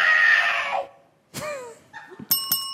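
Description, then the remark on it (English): A Bop It handheld electronic game blares its game-over sound: a loud, harsh synthetic scream that cuts off, then a short gliding electronic squeal and a few bright beeping chimes. No one speaks. “If you don't know, Bop It is a handheld electronic game that's sort of, it's like Simon Says, but it just tells you to do things, right?”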